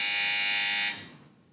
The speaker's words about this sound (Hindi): जी दोनों की बजर बज रही है।